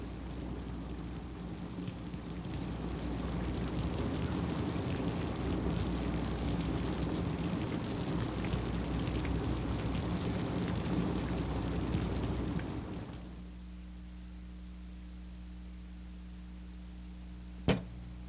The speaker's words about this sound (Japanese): もう亥の刻頃じゃろう。ほんまによう雨が降りますの。